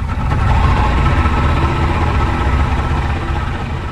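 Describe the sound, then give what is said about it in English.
A small outboard motor on a local ferry skiff, loaded with bags of groceries and passengers, drones steadily and loudly as it crosses a wide bay toward the town of Santa Maria del Mar: a continuous low rumble with a buzzing edge that holds unbroken throughout, with no voices. “The local ferry is just a skiff, piled with bags of groceries and passengers.”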